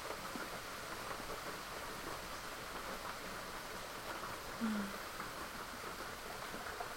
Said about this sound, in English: Listening to the rain.